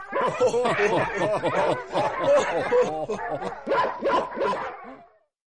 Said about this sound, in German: Von oben hörten sie das Lachen der Ritter und der Knechte und das Bellen der Hunde.